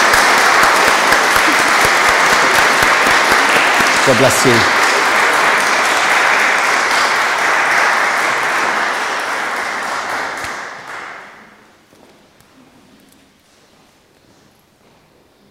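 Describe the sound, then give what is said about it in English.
Sustained, loud applause from people in a church building at the end of a service, given as a farewell to people leaving, steady for about eleven seconds before tapering off quickly into near silence, with a brief spoken remark heard through it. “So let's give them a round of applause as they go.”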